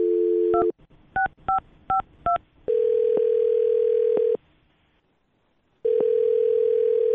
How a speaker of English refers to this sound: Well, here we go, man. I'm going to dial her phone number and you can do your thing.